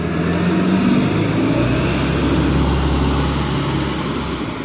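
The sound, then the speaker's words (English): A bus pulls up near a person sitting outdoors under a tree, its heavy engine rumbling loud and steady throughout, with a thin high whine or hiss riding above it. No voices are heard. “And that was not Niagara Falls, that was a bus pulling up to near where I am under the tree.”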